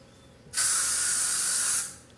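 A single continuous burst of aerosol spray, a bright, steady hiss lasting over a second that cuts off abruptly, from a can of anti-mosquito repellent used in Brazil. No one speaks.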